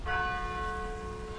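church bells ringing

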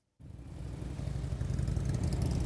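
motorcycle engines running

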